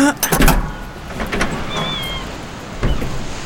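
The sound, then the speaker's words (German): A car's tailgate is opened by criminals after the car stops: a few clicks and thumps, then a steady electric motor whine as it lifts, ending with a soft thud. “Die öffnen die Heckklappe.”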